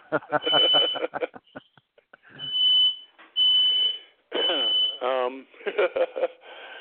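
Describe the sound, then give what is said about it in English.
A home smoke alarm, set off by dinner burning, sounds in repeated shrill, high-pitched bursts, each tone held for about half a second, while a person keeps talking loudly over it. “My smoke alarm going off.”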